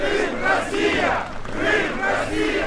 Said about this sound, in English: When Crimea's new prime minister, Sergei Aksyonov, arrived at Simferopol's World War II monument, the 150 self-defense troops already there broke into applause and chants of Crimea, Russia.